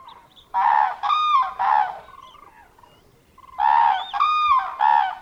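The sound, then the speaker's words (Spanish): Wintering birds in a park in February, the coldest month of winter, call loudly in two bursts of three harsh, honking notes each, separated by a short pause, with a faint rumble of background noise between the calls. “Y a pesar de ello, el instinto de estas aves invernantes empieza de nuevo a activarse.”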